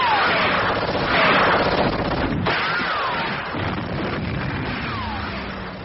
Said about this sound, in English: Gunfire! The wall! Adrian, the wall!